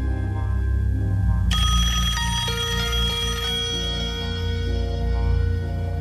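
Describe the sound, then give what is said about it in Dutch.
A telephone rings with a loud, bright bell tone that strikes partway through and rings on, sustained, over a steady low rumble. No one speaks. “Er werd een telefoontje gepleegd.”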